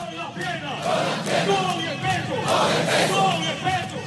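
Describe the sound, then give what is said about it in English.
A large group of troops sings and chants together loudly and steadily, with a rhythmic swell and clapping mixed into the crowd noise, greeting Venezuela's president Nicolas Maduro as he joins them on a Thursday morning. “Thursday morning, Maduro was greeted by troops singing and clapping as he joined them.”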